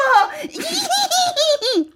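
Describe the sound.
A human voice imitates an excited white horse rampaging in a cramped stable: a high, wavering neigh broken into quick shaky pulses that rise and fall over about two seconds, loud and alone.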